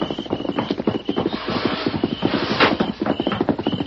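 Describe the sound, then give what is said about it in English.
Hooves clip-clop in a quick, steady rhythm, a horse trotting, loud, with a dense rush of noise around the beats. “What's that? A horse?”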